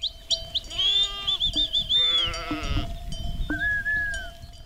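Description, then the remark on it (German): Several sheep bleat in overlapping, wavering calls in the rural village of Faliuc, Caraș-Severin County, Romania, with a steady high tone running underneath and a faint rustle of outdoor ambience. “Schafe, 2000 Einwohner.”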